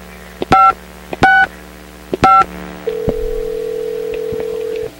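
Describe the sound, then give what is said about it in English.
A phone number is punched in with three short touch-tone beeps, each preceded by a click, followed by a steady ringing or dial tone that continues to the end, as a call is placed to the local mall. No one speaks. “All right, we're calling the local mall to see if there's going to be an Apple store there.”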